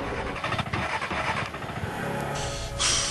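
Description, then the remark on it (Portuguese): A car engine sputters unevenly, its rough, irregular chugging fairly loud, faltering as the car stalls with its fuel gauge at zero; no voices present. “Esse maldito está parando! Meu Deus, deve ter acontecido alguma coisa”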